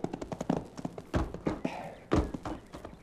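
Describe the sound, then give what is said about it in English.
A horse's hooves clip-clop at a steady rhythm, then slow into a few heavier thuds as the horse is reined up to a halt at the district's federal land office, with a brief snort-like sound between steps. “All you're going to do is rein up your horse, climb off, and go with me.”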